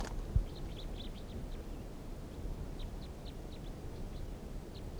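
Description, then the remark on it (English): A male songbird being released from a net gives a quick series of short, high-pitched chirps, faint and irregularly spaced, over a steady low rumbling background noise, with no talking. “It's recording releasing a bird that was in the net but I'm not going to keep.”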